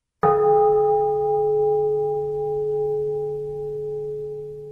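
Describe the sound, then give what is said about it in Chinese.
A church bell is struck once, with a sharp clang that blooms into a long, humming ring. Several steady tones sustain and fade only slightly over nearly five seconds. No voices. “当他离开的时候，有一座教堂的钟声响起来啊。”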